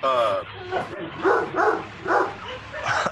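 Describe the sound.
A dog barks aggressively in a rapid, uneven run of five or six harsh, mid-pitched barks, with a brief voice sounding at the start.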